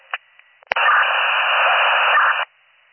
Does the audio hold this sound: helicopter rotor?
no